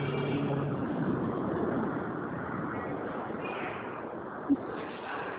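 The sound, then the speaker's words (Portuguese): A motorcycle engine drones steadily, a continuous rough rumble that holds at an even level throughout, with a single brief click near the end and no voices. “Peraí, só um minuto, só um minuto, a moto aqui rapidinho.”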